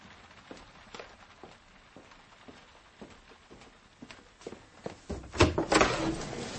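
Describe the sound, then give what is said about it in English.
Quick, evenly spaced footsteps hurry down stairs, then a louder clatter and creak as a front door is unlatched and pulled open. No one speaks. “Run down to the door, my dear fellow.”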